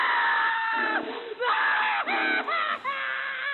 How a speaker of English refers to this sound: but thank God for the tape. We knew it was him. I'd recognize that scream anywhere.